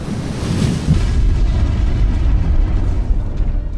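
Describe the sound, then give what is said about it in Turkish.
Fire and brimstone raining from the sky on Sodom and Gomorrah: a loud, sustained roar with heavy low rumble and crackling hiss, churning steadily for several seconds without pause. No voices are heard. “Üzerlerine gökten ateş ve kükürt yağdırdı.”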